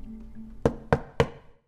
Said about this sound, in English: I go to the back of the apartment where I see the door with the ducky on it. And at 3:01 precisely, I knock.